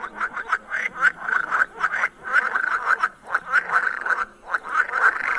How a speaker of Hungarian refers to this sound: Ez a mocsári béka.